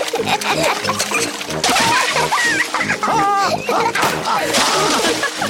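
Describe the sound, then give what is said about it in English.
Steady, lively splashing and sloshing of water as Peppa and George help Granny Pig wash vegetables (tomatoes, lettuce and cucumber), with bursts of squealing, chattering voices rising over the churning water. “Peppa and George help Granny Pig wash the vegetables.”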